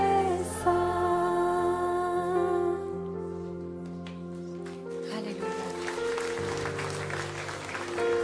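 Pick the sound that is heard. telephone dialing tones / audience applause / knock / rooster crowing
audience applause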